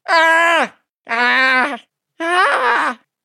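Three loud, strained yells, each under a second long with a short pause between, held at a high pitch and dropping sharply at the end. The cries sound like a voice imitating the anguished, almost inhuman scream of a man in dark coveralls hit by a car in a garage.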